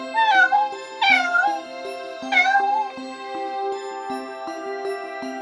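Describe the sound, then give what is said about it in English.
A kitten meows three times in quick, high-pitched cries over gentle background music, which carries on alone after the last meow. “Is it a baby cat?”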